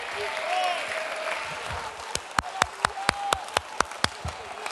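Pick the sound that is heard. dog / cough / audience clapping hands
audience clapping hands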